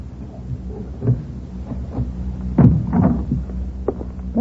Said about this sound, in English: Now, sorry it takes so long getting the door open. Fact is, with all this confounded payroll money in here, I wouldn't open up for anybody but you.